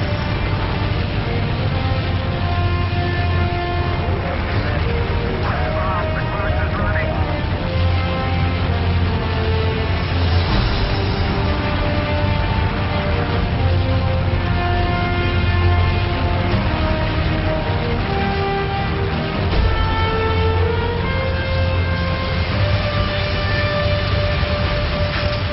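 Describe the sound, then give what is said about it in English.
A space shuttle launch roars on without a break, loud, with a deep rumbling low end and a steady, droning tone across the whole stretch. No voices are heard. “I want to show you a video clip about a rocket launch. A shuttle rocket launch.”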